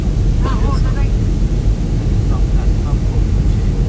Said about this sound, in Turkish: Ve uçaklar o noktada epey bir yavaşlıyor inerken. Evet, şu an evet o yavaşlamayı da hissediyoruz.